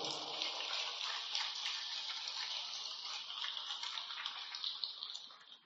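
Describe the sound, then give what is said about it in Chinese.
A dense, steady wash of audience applause, many hands clapping at once with a bright, crackling texture, sustained for several seconds and tapering slightly at the end, with no voices. “掌声比刚才多很多了，谢谢大家。”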